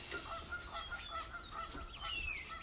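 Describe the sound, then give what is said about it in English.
A flock of ducks quacking in a steady, overlapping chorus, with many honking calls at once and no pauses, moderately loud, with no voices. “And the ducks like that song. The birds. The birds.”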